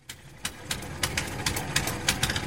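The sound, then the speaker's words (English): A fishing boat engine idles on the Yatta River in Bolivia with a steady low rumble, punctuated by regular rhythmic clattering knocks several times a second. No voices are heard. “I'm on a fishing boat on the Yatta River in Bolivia, the landlocked South American country, which alongside nine others like Peru and Brazil, forms part of the huge Amazon basin.”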